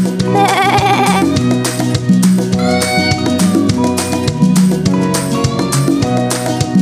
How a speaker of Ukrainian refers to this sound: Правильно, це коза! Коза дириза! А як робить коза?